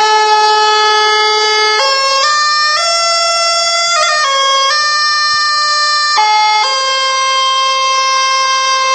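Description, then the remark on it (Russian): A folk reed pipe with a cow-horn bell plays a loud, bright, buzzy melody of long held notes that step up and down in pitch, sounding continuously with no one talking. “С обратной стороны трубка закупоривается и вставляется в тростниковую трубочку, вставленную либо в полый коровий рог, либо в воронку из бересты.”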